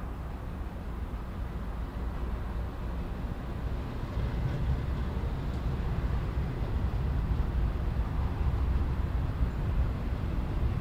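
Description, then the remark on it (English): A diesel freight train pulled by two diesel engines and carrying empty garbage containers rolls past, a loud, steady low rumble with continuous rattling of cars that swells slightly partway through and never lets up; no voices. “Let's listen to the train as it wails past us.”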